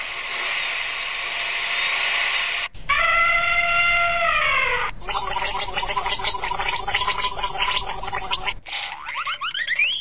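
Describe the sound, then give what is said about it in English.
A decorative wolf-deterrent collar designed by Marina Zirkow and Christy Leese for the work Gila 2.0, Warning Off the Wolf, meant to stop Mexican gray wolves from taking down cows, plays a sequence of abrupt, unrelated sounds: a hissing wash of noise, a steady layered tone, a rapid stuttering buzz, then a short burst of chirps. No one speaks. “That's a sample of the sounds from a decorative collar designed by Marina Zirkow and Christy Leese.”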